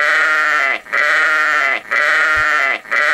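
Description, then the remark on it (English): A sheep bleats loudly three times in a row, each call a long, wavering, nasal cry with brief pauses between them, and no one speaks; a sound clip long used as a staple on the Savage Nation show. “The sheeple sound is really called for today on the program to lighten things up and show people what they become.”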